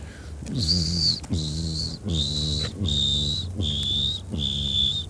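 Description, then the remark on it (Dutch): A water rail gives its piglet-like squealing call: five loud, harsh squeals in steady succession, each under a second long, with brief gaps between and a shrill, grating pitch. “Dus hoor je dat speenvarkengeluid, hoor je dat...”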